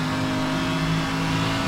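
A video game car's engine drones steadily, its tone holding a constant, buzzing pitch as it accelerates; the car is all banged up. The sound is loud and continuous, with no voices.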